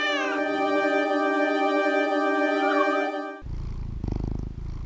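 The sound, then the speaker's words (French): A very large cat named Sherkan is heard, first a long, drawn-out tonal cry, then a low, rumbling purr with a steady pulsing rhythm for the last second or so. No one speaks. “Il m'a été rapporté qu'il y avait un chat qui était assez énorme.”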